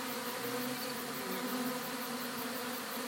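bees buzzing

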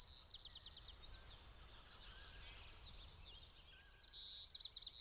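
birds singing outdoors

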